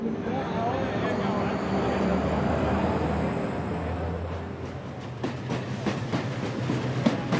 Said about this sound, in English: We're traveling overnight by train, about 600 kilometers south, to the town of Naga Hammadi, on the banks of the Nile. We're in an old diesel train with seats that have clearly seen better days.